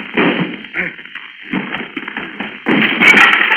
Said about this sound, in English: Stand back so I can crash down this door.